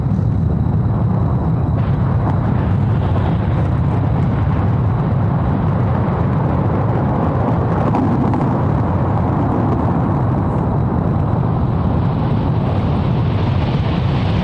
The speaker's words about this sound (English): What you're seeing in the film, when you listen to this audio, is this huge glacier face that's calving into the water, into the ocean. And it's bigger.